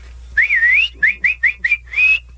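Loud sports-style mouth whistling, like at a baseball game, with no talking: a wavering drawn-out note, then five quick clipped chirps in a row, ending on another sustained high note.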